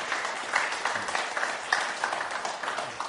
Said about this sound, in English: So could we give Mike a good warm round of applause, please? So thank you.